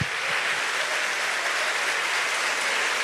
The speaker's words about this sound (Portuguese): Can we give Jesus praise? Você aplauda Jesus.